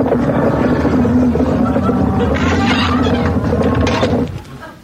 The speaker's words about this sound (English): I can hear those cattle stampeding right outside the door. Oh, I think it was just your vivid imagination, Gramps. I didn't hear anything.